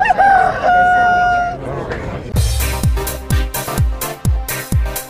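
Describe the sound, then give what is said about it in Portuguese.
A rooster gives one loud, drawn-out, clear crow, then it fades out as punchy rhythmic drum hits and music kick in and carry on steadily. “Dentro do Você Online, fala foca e canta galo.”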